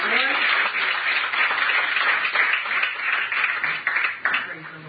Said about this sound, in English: Do you love the Lord tonight? Yes. Can you clap those hands?